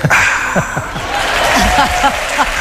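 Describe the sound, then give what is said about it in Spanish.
An audience breaks into steady, loud applause, an ovation for a man from Castilla-La Mancha, a dense wash of clapping that holds for a few seconds, with a few voices calling out underneath. “¡Ovación! ¡Ovación al manchego!”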